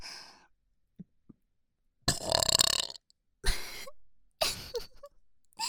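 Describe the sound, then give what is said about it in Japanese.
A series of loud burps, four in quick succession with short silent gaps between them, each one throaty and drawn out. A couple of faint clicks come first, and no one speaks. “オナネタゲップ連発して頑張ってます。”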